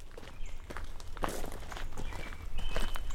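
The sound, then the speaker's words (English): An American robin sings a few clear, whistled phrases, faint and high, while footsteps crunch steadily and more loudly underneath. “Yeah, so that bird we're hearing, that's a robin.”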